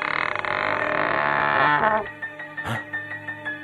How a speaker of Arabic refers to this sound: سأحاول فتح الباب وولوج الدار.